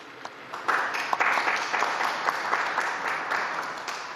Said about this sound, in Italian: Saluto le delegazioni di Portogallo e della Corea del Sud che hanno fatto il passaggio del testimone nel cammino verso la GMG di Seul nel 27. Un applauso alle due delegazioni.